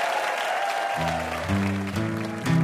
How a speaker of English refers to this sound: And one more round of applause for our VIPs, Alex Bloomberg and Adam Davidson.